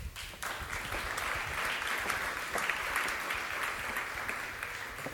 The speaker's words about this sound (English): A big applause